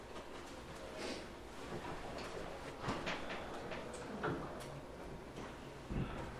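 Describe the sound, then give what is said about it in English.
A door is pushed shut, with a few soft knocks and clicks of the latch over steady room rumble and faint shuffling, ending in a firmer thud. “Will you close that door, please?”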